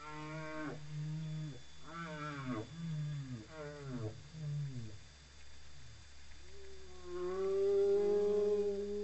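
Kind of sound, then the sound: animal, whale song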